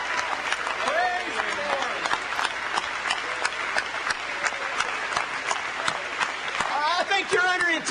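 A crowd applauds steadily for the whole stretch, dense clapping at an even loudness, with scattered shouts and whoops rising over it, especially toward the end.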